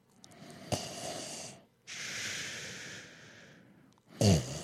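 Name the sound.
voice imitating snoring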